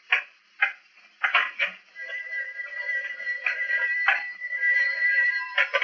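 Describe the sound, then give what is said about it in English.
A telephone rings with a steady, high electronic trill that holds for several seconds, preceded by a few short sharp bursts. No one speaks over it. “Oh, excuse me. I get the phone.”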